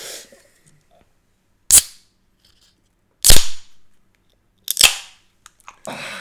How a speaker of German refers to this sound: Hey, für das muss ich auch mal das Bier aufmachen. Ah ja.